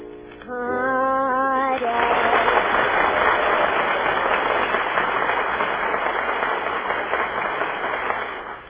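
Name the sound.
studio audience applauding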